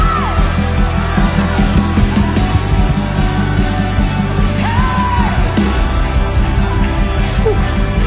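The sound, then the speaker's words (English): A large crowd shouting and yelling together in a victory shout unto God, a loud, sustained roar with scattered whoops rising above the dense, continuous wash of voices. “Shout unto God. I'm shouting for my marriage.”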